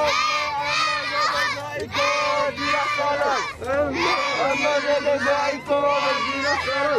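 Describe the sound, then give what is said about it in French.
A crowd of children shouting and yelling together at a carnival in Équin-Plage, loud, a dense, continuous roar of high voices with brief dips before surging again. “Allez-y, allez, allez, il faut crier, là.”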